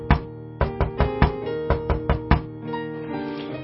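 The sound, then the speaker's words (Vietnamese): Around nine sharp knocks on the door of Lý Thông and his mother in the folk tale, at the third watch of the night, in uneven clusters, ringing against a steady low musical drone; the knocking stops partway through, leaving only the soft sustained tones. “Canh ba hôm ấy, mẹ con của Lý Thông đang ngủ, thấy có tiếng gõ cửa.”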